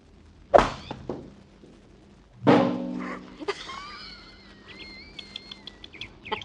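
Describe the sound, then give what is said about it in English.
A golf ball, teed off with a number 3 iron, strikes a water tank. A sharp crack comes first, then a loud ringing metallic bang that hums briefly, followed by faint high, wavering whistles and chirps. “Well, that's too bad that water tank was in the way.”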